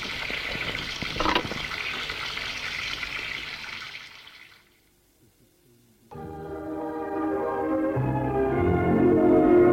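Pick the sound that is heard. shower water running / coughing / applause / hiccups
shower water running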